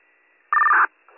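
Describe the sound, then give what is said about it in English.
A dispatch paging tone, toned out for a unit, sounds once: a loud, steady electronic beep lasting about a third of a second that shifts slightly in pitch near its end, followed by a faint burst of radio hiss. “We just toned it out for our unit.”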